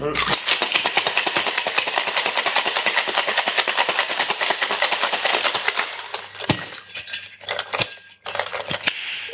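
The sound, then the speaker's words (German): A cocktail shaker is shaken at a bar, rattling rapidly and loudly for about six seconds, ice clattering in a fast, even rhythm, then slows into a few scattered clinks and taps. “So, jetzt gibt es Shake-Geräusche.”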